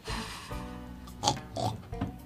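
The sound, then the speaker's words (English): A voice imitates a pig, making a few rough, nasal oinking grunts in quick succession, moderately loud, with no other talk. “Pig. Yeah, there's one.”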